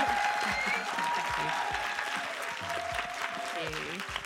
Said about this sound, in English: Okay, thank you so, so much. Huge round of applause for guests. Thank you.